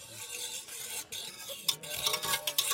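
A whisk churns briskly as 15 grams of curd soap dissolve in 1 liter of boiling water in a pot, turning it milky, bubbly and foamy, with continuous sloshing, clinking strokes and a few sharper metallic taps against the sides, no voices.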